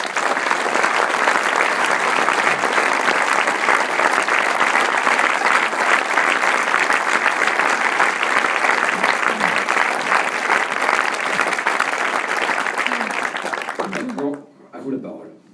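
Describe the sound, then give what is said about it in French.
Sustained audience applause, a dense steady roar of many hands clapping for about fourteen seconds, then abruptly fading out as a voice begins to speak. “Donc, au moins, autant applaudir”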